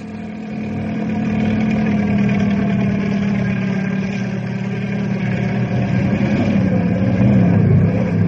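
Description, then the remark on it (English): A helicopter engine and rotor drone steadily as it comes down to land on a canyon floor on the momentum of the rotor, a dense low hum layered with a faint mechanical whine, holding constant and swelling slightly toward the end, with no voices. “I've got to land on the momentum of the rotor while I still have a chance, or I'll crack up.”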